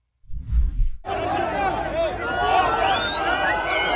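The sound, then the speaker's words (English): A low rumble for about a second, then a loud, dense crowd of Palestinians erupts in jeering at women hostages being released back into Israel, many overlapping voices shouting and calling out, with shrill whistle-like cries rising above the steady roar. “Here you can see crowds of Palestinians jeering at, mocking women being released back into Israel after being held hostage for a month and a half.”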